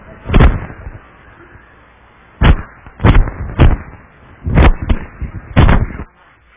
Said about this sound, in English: All right, I know we have fireworks.